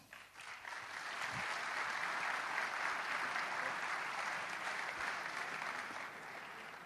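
Sustained audience applause from a sizable crowd, a dense steady wash of clapping that swells quickly, holds for several seconds and eases slightly at the end.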